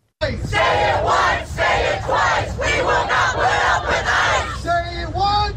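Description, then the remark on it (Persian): A large protest crowd in Los Angeles, on the third straight day of protests against President Donald Trump's immigration policy, shouts in loud, rhythmic bursts of chanting, about one cry per second, over a steady low rumble; the final second turns into longer, drawn-out yells. “ادامه اعتراضات علیه سیاست مهاجرتی دونالد ترامپ رئیس جمهور آمریکا در شهر لس آنجلس برای سومین روز پیاپی اعتراضاتی که با خشونت و درگیری همراه است.”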